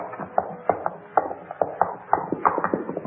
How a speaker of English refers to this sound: Listen, horses, pull the carriage to the side of the road.